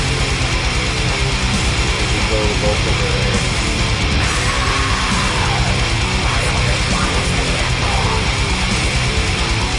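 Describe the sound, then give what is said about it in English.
Loud, dense heavy metal plays throughout, with pounding drums, distorted guitars and a harsh screamed vocal over a wall of sound. “Great Scream.”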